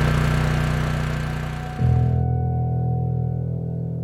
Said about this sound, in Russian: все вот вытаскивают на улицу тяжелые, огромные генераторы. Они там либо уже заправлены соляркой, либо их заправляют соляркой. И вот они начинают пыхтеть и трещать. И вот все абсолютно, весь район вот полностью со звуком этих генераторов.